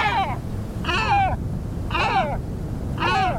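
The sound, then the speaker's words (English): Four deep, hoarse great black-backed gull calls repeat at a steady pace about a second apart, each a short throaty bark, over a constant low rumble of wind or surf. “And though their populations recovered with help from environmental protections, great black-backed gulls are in decline once again.”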